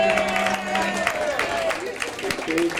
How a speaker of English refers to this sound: Now this is the committee that put all this together. Okay, I want you to give them all a round of applause, please.